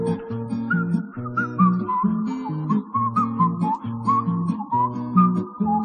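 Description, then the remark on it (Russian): A bright, thin whistled melody wavers steadily over a looping instrumental accompaniment with a repeating bass pattern, continuous and fairly loud throughout, with no voices. “Ёжик резиновый шел, насвистывал дырочки в правом боку.”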